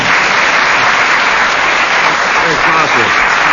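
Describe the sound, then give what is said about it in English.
Steady, sustained audience applause for Tim Brooke Taylor fills the whole stretch, a dense wash of many hands clapping at a loud, even level with no pauses. “Let's have a round of applause it. First for Tim Brooke Taylor.”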